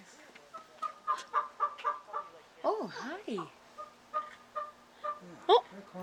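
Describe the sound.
A person imitates a bird with a rapid run of clucking, gobble-like calls, then a swooping warble midway and more sharp chirps, fairly loud, with a few brief spoken words.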